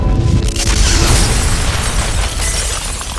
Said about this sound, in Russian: Над нами небо раскололось, со свистом брызнула шрапнель, прервав его негромкий голос, вспоров с иголочки шинель.